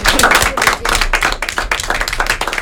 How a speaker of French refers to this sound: Donc, on peut les applaudir.